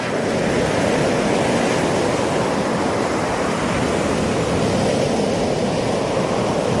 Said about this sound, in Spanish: Chris cerró los ojos y oyó el romper del agua, el murmullo del viento